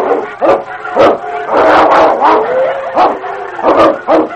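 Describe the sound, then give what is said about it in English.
A vicious fight between the dog King and a wolf pack in snow: loud snarling, growling and sharp barks come in rapid, overlapping bursts with yelps mixed in, and no talking. “It was a struggle to the death with the odds against the dog.”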